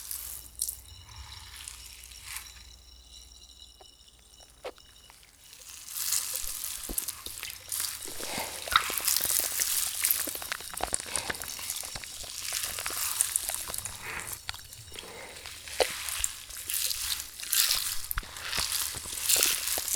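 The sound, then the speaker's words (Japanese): Wet, crackling fizz and squelching foam of a carbonated shampoo, quiet at first, then swelling after a few seconds into a dense, bright hiss with irregular squishy pops as hands massage the lather into the hair and scalp. “炭酸シャンプー、本当に気持ちよさそうです。”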